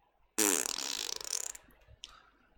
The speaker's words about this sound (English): That fart is our segue into the next shooter coming out.